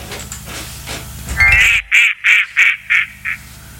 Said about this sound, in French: Bon, alors, on fait quoi maintenant? Eh ben, on passe au coin-coin. Eh ben oui, le coin-coin.